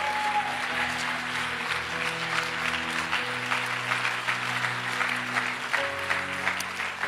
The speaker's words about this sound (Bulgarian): О, би следвало да ръкопляскате, като че времето ви идва.